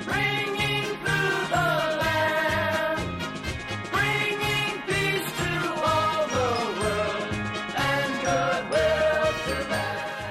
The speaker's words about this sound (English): Christmas bells, those Christmas bells.